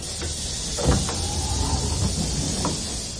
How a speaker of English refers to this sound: The train rumbled into Stadtmitte.